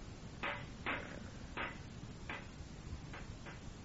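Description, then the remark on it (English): A rock hammering a bent metal campfire grate to straighten it: six sharp clanking strikes at an uneven pace, moderately loud, over a low steady background rumble with no talking. “Who's hammering like...”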